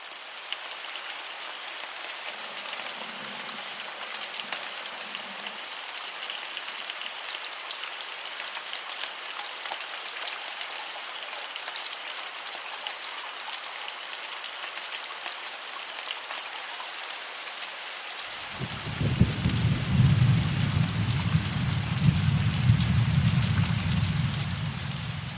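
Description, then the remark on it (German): Steady, hissing rain falls throughout, and near the end a deep, heavy rumble of thunder rolls in low beneath it and swells louder over the final seconds. “So, und hier sind die Donnergeräusche in Kombination mit den Regengeräuschen.”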